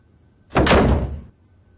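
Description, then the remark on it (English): A door is pushed open in one brief, heavy sweep, a loud rush of scraping and creaking that lasts under a second, with no voices. “The door is open.”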